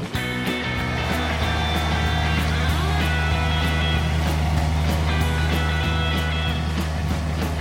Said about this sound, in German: Das war halt ein riesiges Modell von einem Rasenmäher, wo man richtig sich reinsetzen konnte. Und das war richtig coole Technik. Da seht ihr auch die Besonderheit, der hat unten eine Walze und da kannst du auch Muster mit reinfahren.